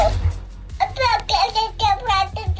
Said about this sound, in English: Is that the sound a newborn makes? That's what's really freaking me out. Yeah, apparently they're very noisy. Really? Apparently they make a lot of noise, yeah.